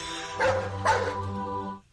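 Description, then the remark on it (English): A person imitates a dog, giving two quick, loud barks, the second following half a second after the first, with a harmonic voiced tail before it cuts off. “Please answer in the form of barks. One for eat it, two for beat it.”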